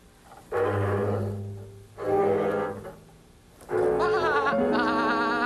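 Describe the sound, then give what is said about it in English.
Three drawn-out goat bleats in a row, loud, each a wavering, nasal cry; the last one is longest and trembles noticeably in pitch, with brief pauses between calls. “Oh, hello, old goat.”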